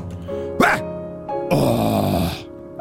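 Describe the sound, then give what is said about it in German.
A voice acts out a sneeze, with a short strained build-up and a loud, breathy burst, then lets out a drawn-out, relieved groan. Fairly loud, with no other sounds. “Noch schlimmer ist allerdings das erleichterte Nachstöhnen nach dem Niesen.”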